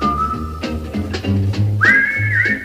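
A bright whistled TV theme tune carries a catchy melody over a light, steady instrumental accompaniment with bass and rhythmic plucks, the whistle holding long notes before leaping higher.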